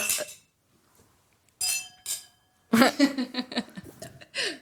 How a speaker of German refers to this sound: Stoßen wir kurz an. Schön, Prost, dass ihr da seid. Schön, dass wir alle da sind.